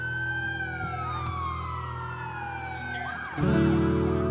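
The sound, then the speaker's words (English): An ambulance siren responding to a 911 call wails loudly and steadily, its pitch sweeping downward over a low engine rumble, then swelling even louder near the end as the ambulance approaches. “I hear the ambulance is coming.”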